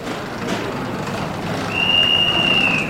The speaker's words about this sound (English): We are in Gara de Nord, that is the biggest train station in Bucharest. That means it's the biggest train station in Romania.